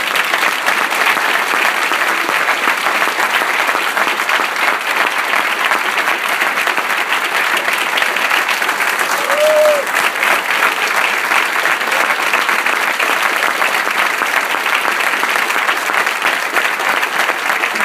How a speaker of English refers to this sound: Sometimes, as he was even saying, he goes, you know what? He goes, during the day, he goes, I don't even feel like clapping. He goes, now's the time to clap. Amen. Now's the time.